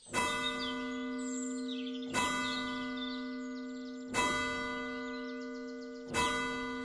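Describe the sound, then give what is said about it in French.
A church bell rings the Angelus, tolling four times at steady two-second intervals, each strike ringing with a rich, lingering hum that overlaps the next. No voices are heard. “L'Angelus sonne à midi et à 19 heures. L'Angelus est une mélodie qui, à l'époque, appelait les gens pour faire une prière.”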